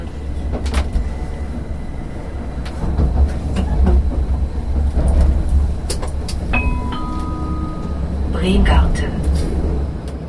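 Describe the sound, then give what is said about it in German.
A train rolls steadily along the rails with a deep, continuous rumble, scattered clicks and clacks from the track, and a brief high tone sounding partway through. “Man stellt sich das immer sehr einfach vor, so einen Zug zu fahren.”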